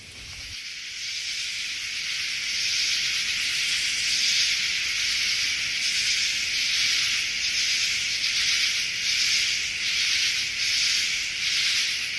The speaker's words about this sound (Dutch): En wat je ook hebt is... maar dan moet je heel goed luisteren... is het gechirp van bepaalde sprinkhanen.